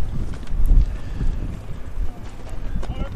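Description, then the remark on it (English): Strong wind buffets the microphones, including the crowd mic, at an outdoor baseball game, blowing from behind home plate out toward the outfield fence: a continuous low, rumbling roar that surges in gusts for a few seconds, with indistinct voices faintly underneath. “You can probably hear it in our microphones and certainly in our crowd mic. It's very windy out here.”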